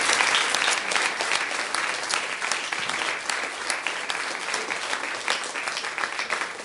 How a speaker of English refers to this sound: Let's give the Lord a hand clap of praise.